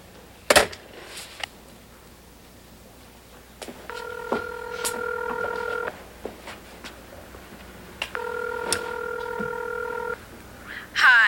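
A telephone is dialed amid a few sharp handling clicks to call a friend, then two steady electronic ring tones sound on the line, each lasting about two seconds with a pause between, clear.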